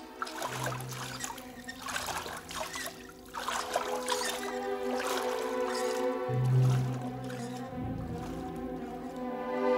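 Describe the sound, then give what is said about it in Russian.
Water trickles and sloshes as a small boat pushes off and glides along, steady, with a low sustained tonal hum running underneath. “Садись в лодку. Поскорее. Поехали.”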